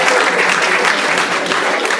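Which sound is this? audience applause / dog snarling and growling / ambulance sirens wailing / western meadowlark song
audience applause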